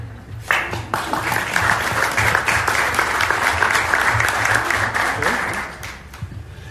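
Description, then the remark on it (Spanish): A crowd in Uruguay breaks into sustained applause when asked to, after thanks for the government's help with new mobile ventilators; dense clapping swells quickly, holds steady for several seconds, then tapers off near the end. “Decirle que aplaudan, sí, aplaudan.”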